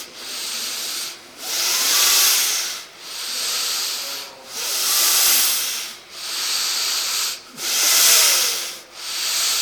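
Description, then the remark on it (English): Deep, rapid breathing exercise in a steady rhythm, about seven loud, airy breaths in quick succession, each a broad rushing hiss separated by brief pauses, with no talking. “And we want deep breathing, right?”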